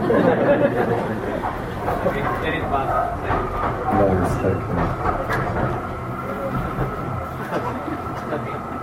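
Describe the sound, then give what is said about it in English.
A tram rumbles past outside, a steady low grinding roar with faint rail clatter that fills the whole stretch, while voices murmur indistinctly beneath it. “How do you, what, the tram was louder than you?”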